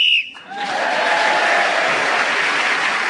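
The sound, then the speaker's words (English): A short, shrill referee's whistle sounds once to end a round, followed immediately by a sustained wash of audience applause and light cheering that continues to the end. “So Rob Brydon was then speaking as the whistle went, gained that extra point.”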